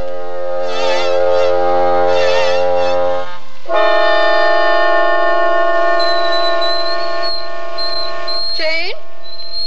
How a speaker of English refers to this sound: Yes, turn off the tea kettle. Didn't you hear me?